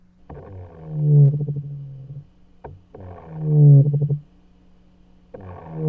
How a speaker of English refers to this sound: Hippopotamus? Nope. Brontosaurus? Nope. Whale? No. That's an insect that's about the size of a grain of rice. It's called a treehopper.